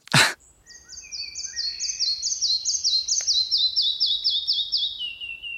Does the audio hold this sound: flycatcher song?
yes